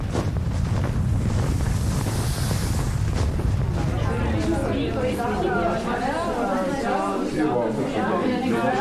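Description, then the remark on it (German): Steady cold wind buffets the microphone while crunching footsteps trudge through snow as a reporter walks while musician Terje Isungset prepares his ice instruments; indistinct voices murmur in the background toward the end. “Während Terje Isungset seine Instrumente vorbereitet, stapfe ich jetzt noch ein bisschen durch den Schnee und lasse mir den kalten Wind um die Nase wehen.”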